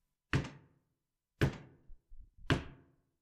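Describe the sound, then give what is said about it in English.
Three heavy, evenly spaced knocks on the door of a tiny house in the middle of the night, each a loud, resonant thud with a short ringing decay, separated by about a second, with faint low rumbles between the last two. “3 knocks.”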